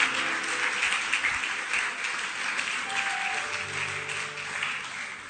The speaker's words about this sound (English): Oh, clap your hands. Clap your hands.